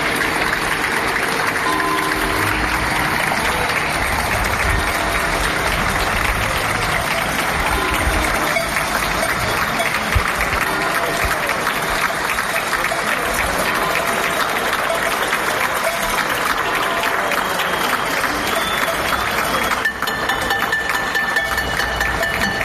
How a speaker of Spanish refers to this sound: Y la sociedad aplaude cada tarde-noche al personal sanitario. Así sonaba en los balcones del barrio de Ocouto.